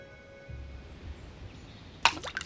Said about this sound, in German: Schaust zu, wie einer Stein ins Wasser wirft.